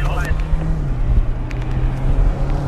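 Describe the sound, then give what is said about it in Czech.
A car drives past on the Hradec Králové driving test track, between traffic cones, in a test of avoiding a collision with a wild boar; its engine a steady, loud low drone mixed with rushing wind noise, with a brief hint of a voice at the very start. “Tak uvidíme, co udělá to auto modrý.”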